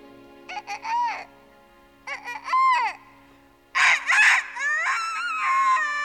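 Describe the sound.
A voice imitates a rooster crow three times in a row, each a rising, warbling call, the last one longer and held out, loud with brief pauses between.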